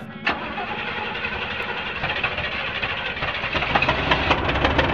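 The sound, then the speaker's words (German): A car engine cranks over and over with a rough, rhythmic churning that never catches, the starter grinding steadily louder toward the end without the motor firing. “zog den Schlüssel ab und sah verzweifelt auf das Armaturenbrett. Das kann doch jetzt nicht wahr sein.”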